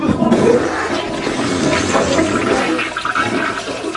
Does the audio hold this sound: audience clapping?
no